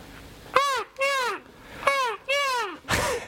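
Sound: voice imitating seagull calls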